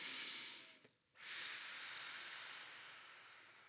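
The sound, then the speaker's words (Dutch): In a calming breathing exercise, a brief breath in through the nose is followed by a short pause, then a long, steady, airy exhale through the mouth, slow and as long as possible, that hisses on for several seconds, fairly soft, with no talking. “En concreet doe je dit door via je neus in te ademen en dan heel rustig en zo lang mogelijk door je mond uit te ademen.”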